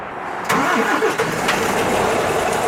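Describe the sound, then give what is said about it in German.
A truck engine cranks and catches with a sudden burst, then settles into a loud, steady rumbling idle, with no voices. This is at a haulage company's truck stop in Römerberg near Speyer, Germany, where about a dozen trucks stand. “Autohof der Spedition Haaf in Römerberg bei Speyer. Rund ein Dutzend Lkw stehen dort.”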